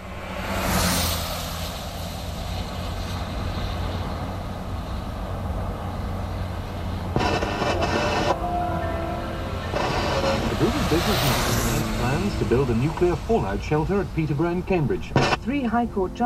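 A car rushes past with a Doppler pitch shift, its broad roar swelling to a peak and falling away, then passing again later as wavering tonal sounds emerge underneath.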